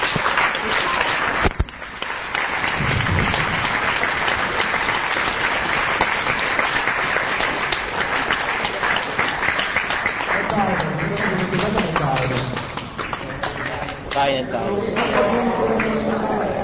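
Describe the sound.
A crowd breaks into loud, sustained applause that fills the whole stretch, dense and steady, with voices calling out and cheering over the clapping in the second half.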